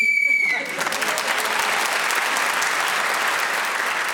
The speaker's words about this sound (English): You were speaking as the whistle went